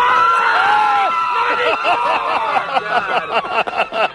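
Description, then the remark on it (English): A loud, dense crowd in the infield at the Run for the Roses horse race fills the air with overlapping shouting voices and babble, rising yells and whoops giving way to choppy, excited chatter from many people at once, with a little wind. “Oh, Wayne, I got to tell you, we have got a crowd out here in the infield. Listen up now.”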